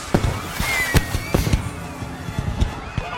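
Firework rockets from a toppled rack on a raft fly at the shore, bursting on impact in a rapid, irregular string of sharp cracks and bangs, several loud pops standing out over a constant crackling, fizzing hiss, with no voices.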